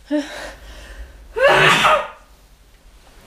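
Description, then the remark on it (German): A person sneezes once: a short sharp intake of breath, a brief pause, then a loud, explosive sneeze that quickly fades into quiet. “oh warte, ich muss niesen.”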